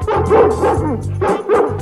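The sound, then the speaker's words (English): A dog barks excitedly in a quick series of loud yips and woofs, about four bursts in under two seconds, bright and cheerful in tone with no one talking. “There sat my proud Perdita with 15 adorable puppies. Roger and I danced around the room.”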